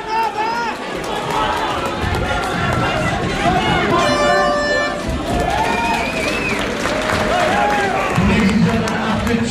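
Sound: crowd applauding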